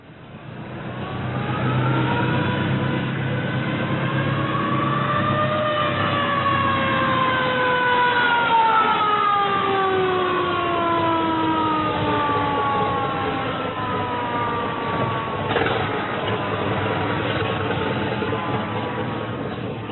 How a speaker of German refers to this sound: Sie stammten aus dem Jahre 1912. Die Feuersirene ließ sich nicht einfach an- und abschalten, weil sie über einen Lederriemen mit der Mechanik des Fahrzeugmotors verbunden war.